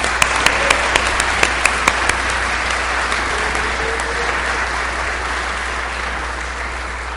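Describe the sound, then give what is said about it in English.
A crowd applauds a group of young people steadily for several seconds, a dense wash of clapping with a few sharper individual claps standing out at the start, then the applause holds at an even level. “And let's give these young people a round of applause.”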